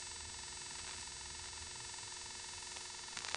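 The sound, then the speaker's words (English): A steady, low electrical buzz hums on a telephone line at the first selector of a step-by-step exchange with the dial tone silenced, coming from the NX1 in the same building; continuous and unchanging, fairly quiet and rich in harmonics, with a few faint clicks near the end and no talking. “The 2 was absorbed, and we're sitting on the first selector with the dial tone silenced, and there is a buzz here, which I've never heard on another STEP as far as I know.”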